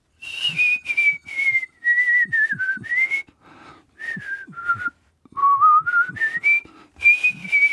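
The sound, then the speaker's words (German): A single person whistles a wavering, uneven melody in short phrases broken by brief pauses, the pitch sliding and wobbling unsteadily rather than landing cleanly on notes. “Oliver spitzte die Lippen, aber was er dann pfiff, klang ziemlich schräg.”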